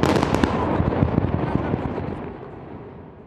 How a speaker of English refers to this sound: They had three tunnels that were still remaining at the site, and they blew them up. These were major explosions.